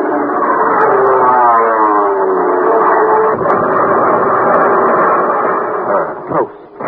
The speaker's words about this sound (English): Those planes will blow him out of the water. Well, there's the first one now coming in for a bomb run.